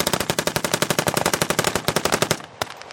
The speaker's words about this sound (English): The stream of gunfire is almost constant, and you've got men in fatigues running all over the battlefield. Some are up in the woods. You see flashes of red as they fire their guns between the trees.